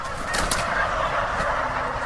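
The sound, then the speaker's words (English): A dense chorus of turkeys gobbling and clucking at John's Turkey Farm in Northfield, Minnesota, many birds calling over one another in a continuous, busy clamor, with no breaks or voices. “You're listening to Sound of John's Turkey Farm in Northfield, Minnesota.”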